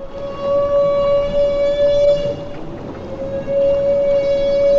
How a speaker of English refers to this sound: Humpback whales make this trumpet sound only when feeding, but why they do it has long been a mystery. Now, physicist Orest Diachuk of Johns Hopkins says the sound may help the humpback size up a school of fish.